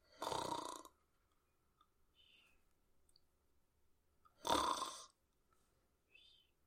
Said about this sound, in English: I'm glad you finally owned up to snoring, because you denied it for a very long time.